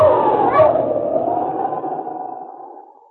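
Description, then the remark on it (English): A dog, Sergeant Preston's wonder dog King from the Challenge of the Yukon, lets out a long, drawn-out howl that holds one wavering pitch for several seconds, fairly loud, slowly fading with a slight echo behind it. “Now back to the days of the gold rush, when Sergeant Preston and his wonder dog King battled through storm and snow to preserve law and order as they met the Challenge of the Yukon.”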